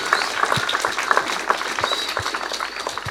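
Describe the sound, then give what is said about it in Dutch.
An audience applauds the leaders who rehearsed for weeks with the children: many hands clapping in a dense, continuous patter with scattered louder claps, holding an even level throughout with no voices standing out. “Dus ik wil een heel hartelijk applaus voor de leiding die ook weken heeft geoefend.”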